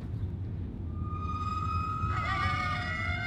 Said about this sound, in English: Let's watch these coyotes scream. I've never heard of a coyote. Oh, listen, I mean. I've never even listened to a coyote scream before.